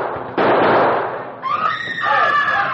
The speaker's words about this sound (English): No one paid him the slightest attention until, just as he was about to enter the building, another equally nondescript man leaped from the doorway and fired three shots.